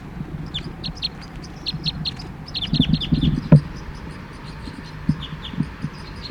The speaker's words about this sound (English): Fight calls now by the cage birds.